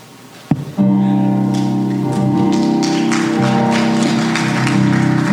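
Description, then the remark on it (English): An audience at Greenwood Baptist Church breaks into loud, sustained applause for its young people after a sharp thump, the clapping continuing steadily to the end over a low, steady musical hum. “Come on, let's give our young people one more round of applause.”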